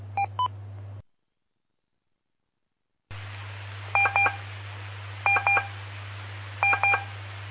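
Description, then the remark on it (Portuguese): Morse code tones from a radio telegraphy lesson: three spaced groups of two short, identical mid-pitched beeps over a steady low hum and hiss, with a pair of beeps at the start and then a stretch of silence. “PP5 Índia Papa Índia por PP5 Delta Eco com as aulas de telegrafia começando agora por aí.”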